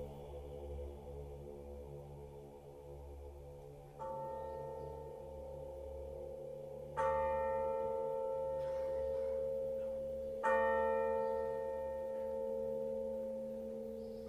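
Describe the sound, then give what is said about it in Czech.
A church bell tolls three times from a tower, a few seconds apart, each ringing stroke lingering and overlapping the next above a low, steady rumble. “i ko srce jedno, gde jad ljuti bije, milosno zvono zacikta sa tornja.”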